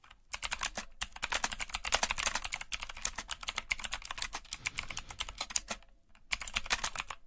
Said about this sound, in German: Morse-Alphabet? Aus der Vergangenheit, der Zukunft, glaube ich. Eine klackernde Tastatur.